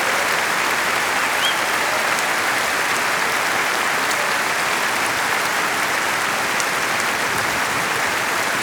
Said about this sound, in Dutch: Geef ze een enorme applaus voor de grootste fanfare van Nederland.